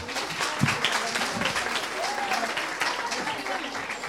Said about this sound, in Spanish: Un aplauso, por favor.